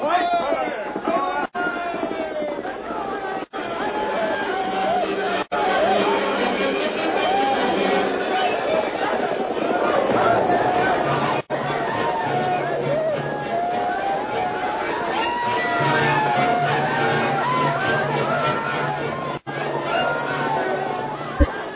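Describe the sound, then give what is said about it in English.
A crowd of attackers rushing toward a fort shouts the battle cry of Geronimo, many voices whooping and yelling at once in a loud, continuous roar with rising and falling cries, holding steady throughout with a few brief cuts. “They can't hear you above the shouts, Geronimo.”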